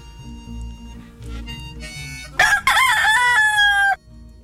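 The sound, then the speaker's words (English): A rooster crows loudly, one long warbling cock-a-doodle-doo that rises sharply and holds before cutting off, with a low background rumble before it. “"I may sing a hungrier song," said the headstrong gallito. "But I will sing." And he did.”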